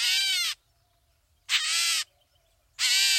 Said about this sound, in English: Well, the catbird part is easy. It's a cousin of the mockingbird in the bird family known as the mimids. And it does sound a little like a cat.